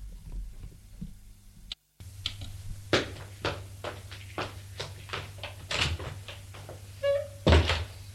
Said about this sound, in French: Enfin, son père est bien parti. Oui. Il a bien entendu la porte d'entrée se fermer.